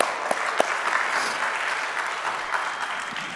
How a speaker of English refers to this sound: we can clap for him